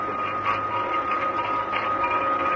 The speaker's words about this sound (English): Can you hear anything? Yes. It sounds as if someone's sawing. Yeah, that's just what somebody is doing with a hacksaw, if I'm not mistaken.